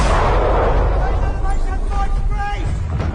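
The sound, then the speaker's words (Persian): Artillery cannon fire, aimed at enemy guns from about two miles behind the front line, rolls in heavy, low booms that blend into a continuous loud rumble, with faint voices briefly audible underneath partway through. “پس توپامونو برای زدن توپای دشمن تنظیم کردیم.”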